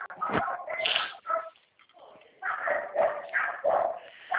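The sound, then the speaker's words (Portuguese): Dogs bark and yap during a phone call in a rapid, fairly loud string of bursts, falling briefly quiet in the middle before the barking resumes with several more sharp yelps. “Um minutinho que eu vou pôr o fone, meus cachorros é muito barulhento.”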